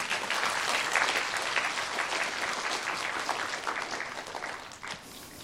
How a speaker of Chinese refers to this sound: 好，谢谢，我们鼓掌一下好吗？